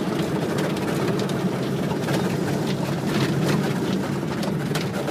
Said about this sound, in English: Engage the engine again, the motor, I guess.